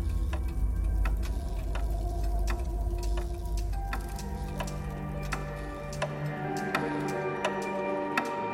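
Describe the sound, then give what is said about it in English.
A clock ticks steadily at a brisk, even pace, each sharp tick distinct over a low, continuous rumble and faint hum, with no voices. “It's the clock, you see. Evidently.”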